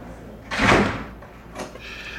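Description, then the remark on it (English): A door closes behind someone leaving, with a broad, rushing swing and thud, followed about a second later by a softer latch-like knock, with no voices. “All right, don't worry. Lock the door behind me, okay?”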